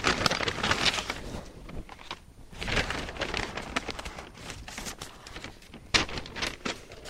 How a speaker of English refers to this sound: And then there's a yarn and fabric store that is next to the bead store. So I'm opening the paper baggie.